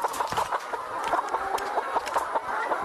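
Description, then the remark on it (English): A dense chorus of chickens clucking and squawking together on a poultry farm in Delta State with about 3,000 birds, many birds overlapping in a busy, continuous din with sharp bursts of calls rising above the flock noise. “Mathias Ojikovu is a poultry farmer in Delta State who has about 3,000 birds.”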